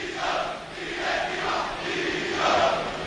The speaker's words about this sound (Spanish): Estoy en la fachada de tribuna en la Avenida de Suecia. Ya más de 1,000 personas, 1,000 aficionados valencianistas están, como digo, aquí agolpados al grito de Peter Lim dimisión, Suso Canalla fuera de Mestalla, directiva dimisión, los escuchamos.